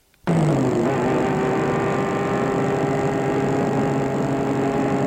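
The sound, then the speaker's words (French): A car appearing at a path crossing, its engine cutting in abruptly and running loud, a steady droning rumble with a slight drop in pitch early on, then holding an even idle-like tone as the car stops. “Croisé d'un chemin, une voiture apparaît.”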